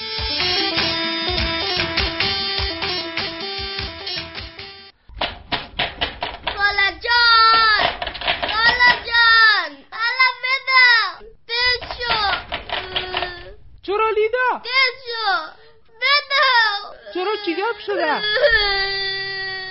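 A child cries loudly in rising and falling wails, first a sustained sob, then a run of broken, pitch-swooping cries separated by short gasps and pauses.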